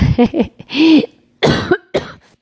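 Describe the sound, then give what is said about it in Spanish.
A loud coughing fit of several harsh, raspy coughs in quick bursts, with a strained throaty rasp between them and no talking, from a person choking after talking loudly. “Ya me voy, me estoy ahogando. Dice tomar agua. Todo por hablar fuerte y echar cotorreo. Empiezo a toser.”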